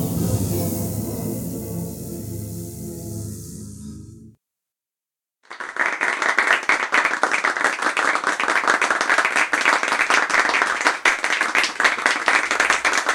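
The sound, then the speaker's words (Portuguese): After a stretch of music and a brief silence, a crowd breaks into sustained, loud applause, many hands clapping densely and steadily for several seconds. “Pode bater nas palmas, que tem mosquito pra caramba.”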